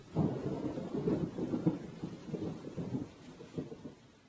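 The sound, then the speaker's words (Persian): Steady rain hisses beneath a deep, rolling rumble of thunder that swells and fades in waves throughout, moderately loud, with no voices. “گفت باران”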